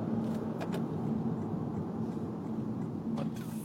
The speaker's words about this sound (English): Fucking awesome truck. And awesome. Swerving into my fucking lane.